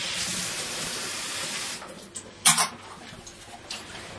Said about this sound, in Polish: Tylko wstawię wodę na kawkę. Chyba się kawy napijemy.